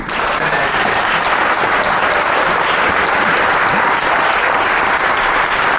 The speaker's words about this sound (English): Round of applause for …, ….